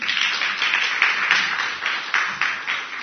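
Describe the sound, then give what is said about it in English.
A crowd applauding steadily, a dense, bright patter of many hands clapping that swells slightly in a few bursts and keeps going without pause, with no one speaking over it. “And you'll save some applause for Mike and Paul whenever you see them again.”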